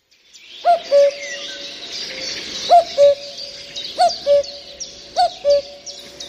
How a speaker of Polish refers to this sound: Nie będę teraz państwa pytała, który to ptak tak pięknie śpiewa, a nawet kuka, no bo głos kukułki zna chyba każde dziecko już od przedszkola.